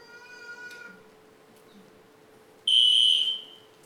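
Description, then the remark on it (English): A fire alarm in a church goes off during a sermon, letting out one loud, piercing electronic beep lasting about half a second, after a fainter wavering tone and under a steady low hum. No one speaks. “Is it so hot in here that the fire alarm went off?”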